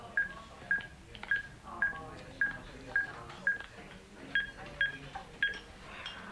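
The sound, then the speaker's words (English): A telephone keypad being dialed: a quick series of about a dozen short, evenly spaced electronic beeps, each a distinct tone, clear over faint background murmur. “I've got to make a phone call.”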